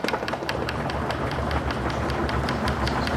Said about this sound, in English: What's all this banging on the desks about? That's how you thank someone for a lecture in Germany.